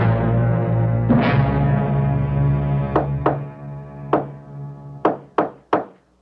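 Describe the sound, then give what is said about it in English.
Knocking on a door in a deliberate pattern: a heavy thud, then two quick knocks, a single knock, and a final run of three sharp raps, with a low hum underneath early on. “Yes? Who's there? It's me. All clear. Open up.”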